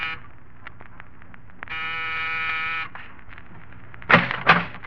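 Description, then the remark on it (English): An apartment door buzzer in the corridor of an apartment building in New York's East 70s is pressed once, a steady electric buzz lasting about a second in a quiet hallway, followed a moment later by a couple of sharp clattering knocks like a door latch. “Press a buzzer.”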